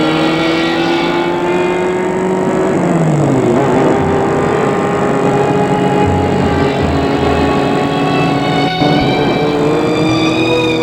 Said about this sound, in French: Il prend la voiture et roule.